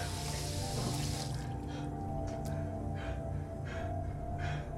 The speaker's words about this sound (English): Moving to a sink, he turns on the faucet. He rinses his mouth.